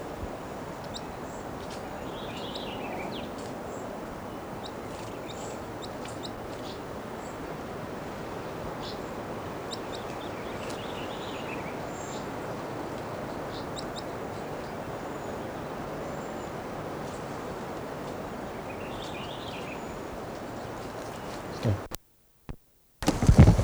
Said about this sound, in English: Recording one of the wild birds just gave a song phrase.